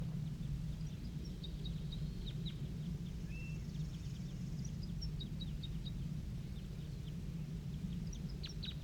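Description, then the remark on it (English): A wild male bird sings in short bursts of quick, high chirping notes, repeated a few times over a steady low rumbling background; the song stays fairly faint. “Male singing wild.”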